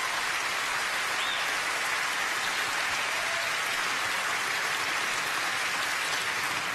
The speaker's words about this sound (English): I'm going to pretend half that applause is for me, even though I know deep down it is not.